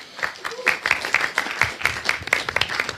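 A short round of applause from a small group welcoming a speaker before a talk about Freifunk, with brisk, fairly even clapping running steadily at moderate volume for a few seconds.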